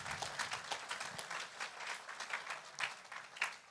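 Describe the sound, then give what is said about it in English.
A crowd applauds the women in the room for Mother's Day, many hands clapping in a dense, even patter that holds at a moderate level throughout without fading. “Let's give all the women in the room a big round of applause.”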